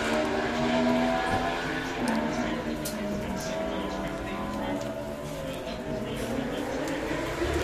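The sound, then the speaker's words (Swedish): Racing motorcycles roar past one after another, their engine whine rising and falling as each speeds by, over a constant wash of loud outdoor noise with voices underneath. “Ja, det fortsätter att rassla förbi. Ja. Motorcyklarna kommer i en stridström.”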